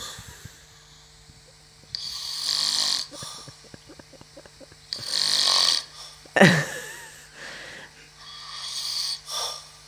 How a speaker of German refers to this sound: Das warst doch nicht du. Doch, natürlich. Du schnarchst doch nicht. Na, aber wie ein Bär. Und das war mir so unfassbar peinlich.